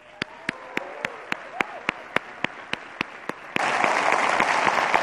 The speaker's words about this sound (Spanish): Yo creo que ha llegado el momento que todos estábamos esperando hoy. Por favor, ayudarme a dar la bienvenida con un fuertísimo aplauso al CEO de Microsoft, Satya Nadella.